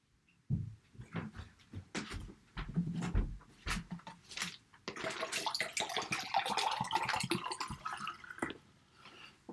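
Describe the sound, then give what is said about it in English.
Water runs from a tap into a cup, a steady splashing rush with irregular drips and clinks at the start before the flow fills in more broadly. “All right, I had to go get my cup real quick. My cup was running over. I had to get some water.”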